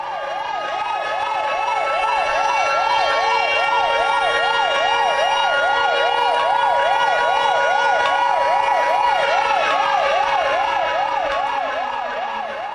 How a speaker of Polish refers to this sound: Mija 75. rocznica wybuchu Powstania Warszawskiego. Centralne uroczystości odbyły się w czwartek w stolicy. W godzinie W, w której wybuchło powstanie, zostały uruchomione syreny alarmowe, a stolica uczciła rocznicę minutą ciszy.